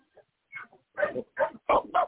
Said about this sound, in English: You hear that? How about that? Did Amadeus just bark so.